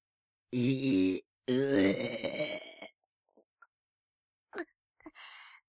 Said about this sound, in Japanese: ゲップが込み上げてしまいましたわ。失礼して。